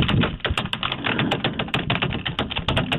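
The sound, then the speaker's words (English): Rapid, continuous typing on a keyboard while entering a name, a dense patter of sharp key clicks at an irregular rhythm, fairly loud, with no talking. “What were all the other keys that you were hitting?”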